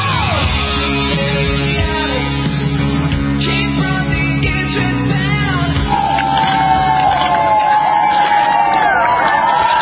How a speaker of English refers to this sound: Applause for the former president. That's right.